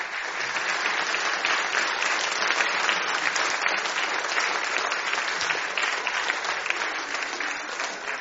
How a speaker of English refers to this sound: Thank you, everybody. Let's welcome him with a big round of applause.